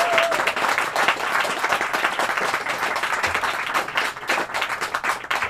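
Steady applause from an audience, many hands clapping in a dense, continuous patter that stays loud and even for several seconds with no voices over it.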